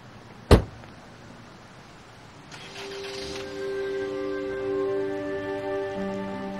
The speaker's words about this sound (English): She gets in the car and he closes her door for her.